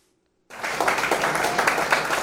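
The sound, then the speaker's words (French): After a brief silence, students at the State University of Haiti break into steady, dense applause honoring Sayo, many hands clapping at once in a loud, continuous wash with no voices. “C'est sous l'applaudissement Sayo, étudiant hier à Isias, dans l'Université de l'État d'Haïti, honoré personnalité Sayo.”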